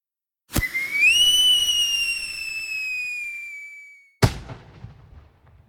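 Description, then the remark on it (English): A firework launches with a sharp pop, then a long, slowly falling whistle with bright harmonics for about three seconds, ending in a loud burst followed by crackling debris. “A firework illuminated the sky”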